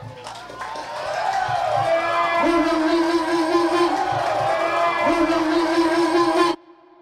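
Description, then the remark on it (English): A big, packed concert crowd roars and applauds in a loud, dense, unbroken wash of noise, with a sustained tonal hum running through it. The cheering cuts off abruptly just before the end. “Everybody give yourself a round of applause.”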